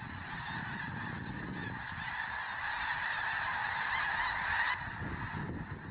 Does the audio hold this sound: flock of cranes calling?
yes